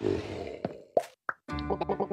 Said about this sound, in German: Die sind zwar nur sehr grob gepixelt und haben keine Sprachaufgabe, sondern nur dieses Blubbern, was wir gerade gehört haben und da auch nur wenige Zeilen Text.